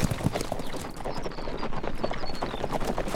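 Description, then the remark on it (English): Horse hooves clip-clop steadily on hard ground as a horse is ridden, a quick uneven patter of hoofbeats that carries on throughout with no one speaking. “rode off to the front of the string, watching Bone the way a fox watches a crippled chicken”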